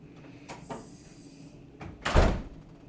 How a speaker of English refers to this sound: And I'm going to go close the door before we get started.